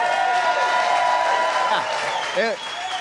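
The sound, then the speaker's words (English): A crowd at Mellow Mushroom gives a loud, sustained ovation of applause and cheering for NFL players, including Calais Campbell, with a brief rising whoop near the end as the clapping begins to ease. “But the scene here at Mellow Mushroom moments ago when these guys walked in the door was a loud ovation. Let's give it to him again.”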